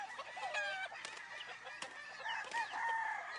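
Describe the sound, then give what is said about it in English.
Several chickens kept in a New York City garden cluck and chatter while a rooster crows among them, the calls overlapping in a busy, continuous barnyard chorus with no talking. “I think most people are keeping them for the company, number one, because it reminds them of growing up, because it brings kids into the garden to improve garden health, and number two, for eggs.”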